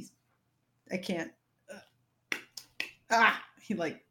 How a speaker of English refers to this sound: I don't know, washes his hands, whatever. I don't understand how to say that. You know, like claps them together sideways so it goes.